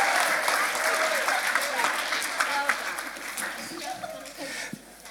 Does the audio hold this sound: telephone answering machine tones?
no